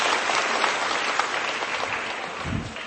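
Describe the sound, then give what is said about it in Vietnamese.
A crowd claps steadily, a dense, sustained patter of applause at moderate loudness with no break, holding even for the whole stretch, as a woman is welcomed up to the front. “Chứ chúng ta một tràng pháo tay để chúng ta gặp gỡ người chị em này lên đây.”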